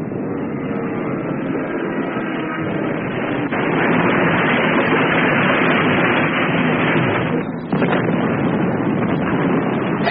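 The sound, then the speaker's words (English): A German bomber, having hit a barrage balloon cable and spun out of control, goes down with a heavy, roaring rush, swelling louder after a few seconds, briefly breaking off, then surging back as a dense, continuous rumble of wreckage crashing onto a fishing jetty. “Look, you can see it coming down. It's going to crash close by.”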